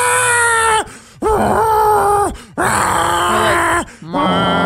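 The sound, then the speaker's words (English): Cats mating late at night in a neighborhood yowl in loud, drawn-out wails, four long harmonic cries that bend and waver in pitch, with brief gaps between them and no talking. “Is there anything worse than late at night in your neighborhood hearing cats like make sweet worst. Love to each other?”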